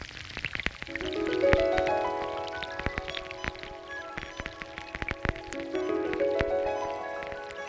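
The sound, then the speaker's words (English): Rain falling on a creek, heard underwater through sensitive underwater microphones: dense, irregular ticks and pops of drops over a steady muffled rush of sediment being washed away, with low humming tones swelling and fading twice. No voices. “You can only hear the rain that drops down on the creek, and you hear the sediment that gets stronger and stronger, washed away.”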